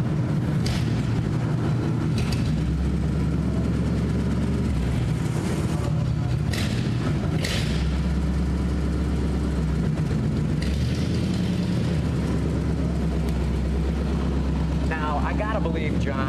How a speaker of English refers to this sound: All right. Flathead V8. You can't mistake that sound anywhere. Absolutely. And it's great.